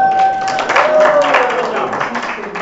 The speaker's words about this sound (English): All right, well, we're going to baptize you in the name of the Father, the Son, and the Holy Spirit. Amen. All right, everyone will clap.